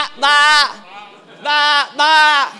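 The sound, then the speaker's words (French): Several voices imitate sheep bleating in three loud, drawn-out 'baa' calls, the last two close together, with a brief quieter gap after the first. “Any sheep here?”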